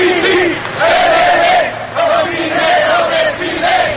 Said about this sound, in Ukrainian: За порятунком гірників на місці події стежать понад 4 тисячі присутніх. При піднятті кожного вони вигукують.